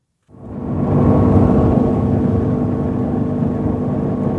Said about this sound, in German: steuert das Motorboot durch die Untiefen des spiegelglatten Rio Chassi. Immer wieder muss er Ästen, Baumstümpfen und Sandbänken ausweichen.